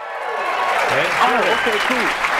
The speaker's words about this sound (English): But even after playing in two Super Bowls, he had a problem believing that our cheering crowd was legit.